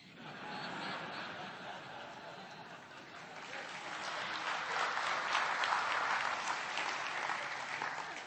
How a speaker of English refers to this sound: You shouldn't clap.